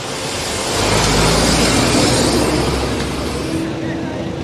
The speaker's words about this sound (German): Während sie mit den Wärtern spricht, fahren an uns LKW vorbei, die Unmengen Müll geladen haben.